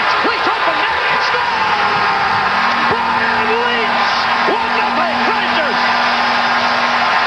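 hockey arena crowd roaring

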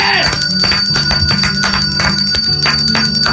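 bell ringing

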